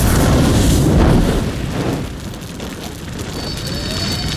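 A loud explosion in an action show clip erupts in a heavy burst of deep rumble, then settles into a long rolling roar of debris and crackle that slowly fades, with a faint high whine near the end.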